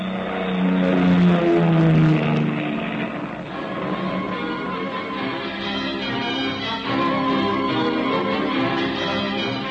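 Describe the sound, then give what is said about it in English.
A steady, droning airplane engine hums throughout during a plane trip, thick with layered tones and holding a fairly even loudness, with a slightly louder surge near the start and no voices. “Plane trip between points paid from expense account of company manager and not included herewith.”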